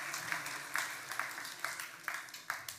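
A crowd applauds steadily, a dense wash of many hands clapping with a few sharper claps rising above the rest every half second or so, sustained at a moderate level.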